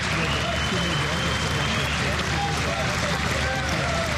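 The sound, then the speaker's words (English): A large crowd in a city centre, gathered to remember 22 people who were killed, cheers and applauds after a silence in a steady, dense roar of voices and clapping that stays loud and even for the whole stretch, with occasional higher calls rising above it. “There was silence. Then there was cheering.”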